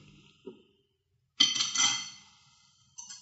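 A doctor's bag is opened and a syringe taken out: a soft click, then a sharp, bright glassy-metallic clink that rings for about a second, followed by a brief second clink.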